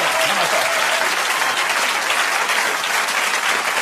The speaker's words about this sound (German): Bitte, warten Sie, warten Sie. Das war ein guter Applaus. Auch an der richtigen Stelle, auch in der Ausdruckskraft, völlig in Ordnung.